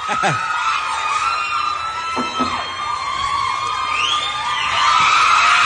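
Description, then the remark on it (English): A large concert crowd cheers and screams continuously as the band a band walks onto the stage, with high-pitched whoops and shrieks rising above a dense roar that swells louder toward the end. “waving to the crowd”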